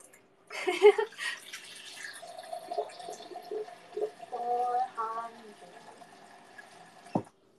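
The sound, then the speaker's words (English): Cold water pours from a tap into a pot, about 400 milliliters for cooking noodles, starting with a splashy gush and settling into a steady filling stream whose tone shifts as the pot fills, ending with a brief clunk. “Usually when I boil noodles, I bring the hot water, but since I want to spend more time with you guys, I'm going to use cold water to start.”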